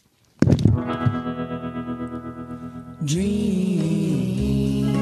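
A pop song starts abruptly with a ringing electric guitar chord that pulses with heavy tremolo, then shifts to a brighter, fuller chord as the band comes in; no singing yet.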